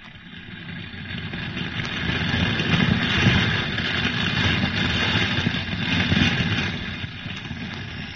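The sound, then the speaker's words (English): A steady, loud drone of C-47 transport plane propeller engines roars throughout as the planes, loaded with fire hose, shovels, bush axes and other equipment, take off for areas threatened by fire; a thick rumbling hum swells slightly in the middle, with no voices. “C-47 transport planes loaded with fire hose, shovels, bush axes, and other equipment took off for threatened areas.”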